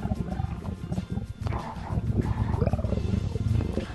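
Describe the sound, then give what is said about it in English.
A voice growls in a deep, guttural, heavy metal frog style, a rough, rasping roar that rumbles on almost continuously for several seconds, loud and low with a brief dip partway through. “You're doing that heavy metal frog voice thing.”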